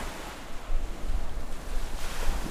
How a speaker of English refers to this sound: standing on the edge of the lake, watching the waves crash in as the water splashes their shoes.